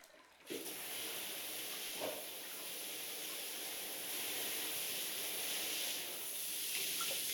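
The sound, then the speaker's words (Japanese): A shower switches on after a brief pause and sprays steadily to rinse soap foam off a customer's body, a continuous hiss of running water with faint splashes, with no voices. “それではお客様の体の泡を流しますので、またシャワーをかけていきます。”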